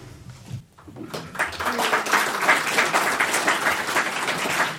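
An audience breaks into steady applause after a mayoral candidate finishes speaking, many hands clapping in a dense, sustained patter that stays loud and even throughout.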